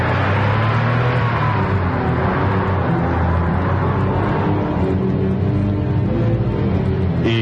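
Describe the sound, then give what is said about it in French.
A car engine roars loud for several seconds, its pitch shifting slightly as it accelerates, a steady rumbling drive with no voices: the car of Monsieur Adolphus Pimpinergol, director general of Socoban, speeding away into the night. “la voiture de Monsieur Adolphus Pimpinergol s'éloigne à toute allure dans la nuit.”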